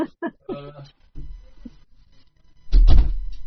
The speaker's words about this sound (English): Let me just shut this door. There's a lot of noise. Hang on a second.